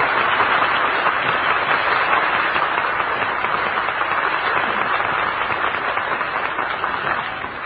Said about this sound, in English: Now, ladies and gentlemen, I'd like to have all of these servicemen and women get up on their feet, and let's give them all a big Hollywood and breakfast applause.